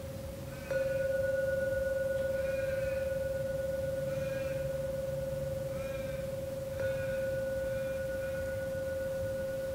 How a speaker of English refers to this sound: So we're coming towards the end of the session. I'll ring the bell 3 times. You can open your eyes when you're ready.